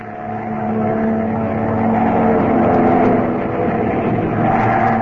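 airplane engine roaring

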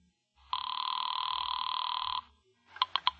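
telephone ringing

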